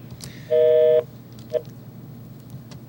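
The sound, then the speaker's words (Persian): A loud half-second electronic telephone tone sounds over a low hum, followed by two short, softer beeps spaced apart, as a call fails to connect because the line is bad. “خیلی خوب، یه بار دیگه زنگ میزنم، خط رو خراب زد.”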